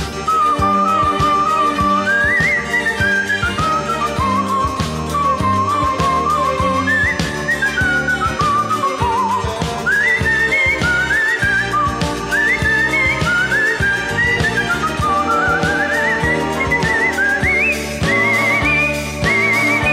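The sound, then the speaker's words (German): A clear, loud whistled melody from a classical symphony in G minor, performed as art whistling, glides and trills above a pop version of the orchestra, a full, steady backing with a driving pop beat, continuous for the whole stretch with no voices. “die große G-Moll-Sinfonie, die Sinfonie Köchel-Verzeichnis 550 von … gepfiffen wird mit einer verpoppten Version des Orchesters”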